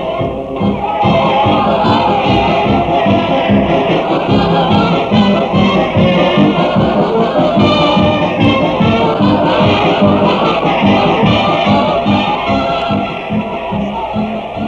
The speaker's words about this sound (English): Let's pick up a little of that music down there and see what's going on during timeout.